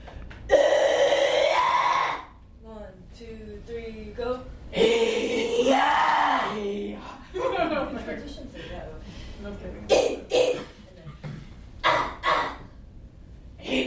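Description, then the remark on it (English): Harsh, raspy metal screams from a metal choir practicing extreme vocals in a class, coming in loud, strained bursts with short gaps between them, mixed with growls, gasps and wailing tones. “a rock and metal musician, music instructor, and session vocalist with a very unique skill set of extreme vocals, aka metal screams.”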